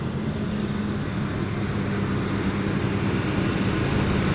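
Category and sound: vehicle, old car engine running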